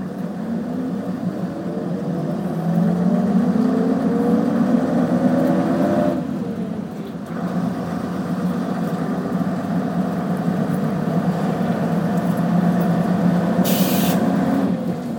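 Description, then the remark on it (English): A vehicle with an AAC engine and a manual gearbox pulls away, its low-revving drone rising in pitch, breaking off briefly for a gear change, then climbing again. The rumble is steady, heard from inside the vehicle, with no talking. “So this has a manual gearbox by the sounds of things.”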